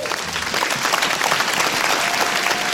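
A live audience applauds as a song is about to be performed, a dense wash of many hands clapping at once, loud and sustained throughout with no voices standing out.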